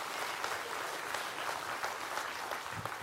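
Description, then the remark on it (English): A church audience claps steadily in dense, sustained applause, giving praise to God, a broad wash of many hands for the full stretch, with faint vocal cheers mixed in. “Number two, come on, give him praise.”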